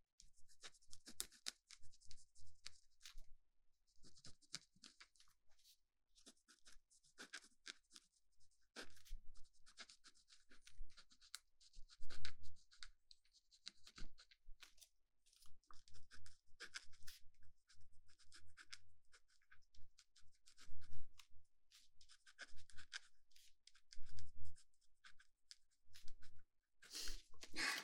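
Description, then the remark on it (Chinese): Scratching of a pen or pencil writing on paper, quick rasping strokes in bursts separated by short pauses, with occasional soft taps and no voices. “其实我们平时做听力训练的话，都是用铅笔，然后在素描纸上发出那种沙沙的声音。不过你喜欢这样的也不错。”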